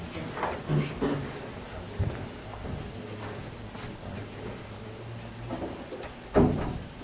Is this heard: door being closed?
yes